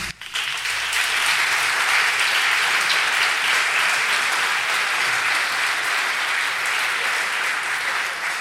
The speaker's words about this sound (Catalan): O sigui que per vosaltres, el primer aplaudiment.